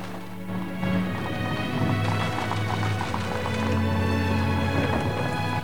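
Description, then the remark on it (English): Steady clip-clop of four horses' hooves pulling a coach away from a house, with a continuous rumble of wheels underneath, fairly loud throughout. “The four horses pull the coach away, and Jane looks back at the house through the window.”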